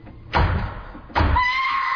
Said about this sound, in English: All right, that's the front door. I'll go and see who it is.